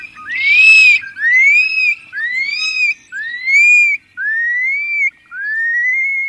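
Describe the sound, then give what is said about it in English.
A shorebird gives a series of six clear, rising whistled flight calls, evenly spaced about a second apart, each a loud upward-slurred note with no other sounds around them. “And their whistles can be heard again, dropping from the sky.”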